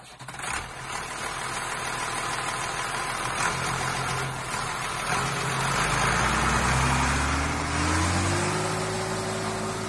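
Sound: tractor engine running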